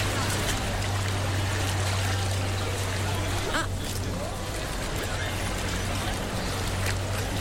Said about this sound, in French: Ah. Il y a un bon bruit de moteur. On entend l'eau. On entend l'eau. Oui. Donc on est sur une gondole, ouais, on entend un peu les gens qui parlent derrière.